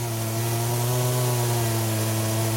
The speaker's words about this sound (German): Dann wirft er die Säge an. Er zerteilt den Stamm in Blöcke von etwa 30 cm Länge.